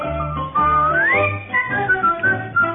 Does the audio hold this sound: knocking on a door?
no